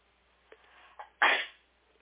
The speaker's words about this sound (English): I'm going to sneeze. Hold on.